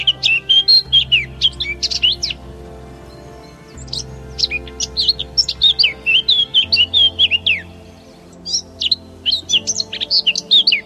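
A Eurasian blackcap sings in bursts of rich, fluty warbling phrases, several in quick succession, clear, over a soft low steady drone in the background.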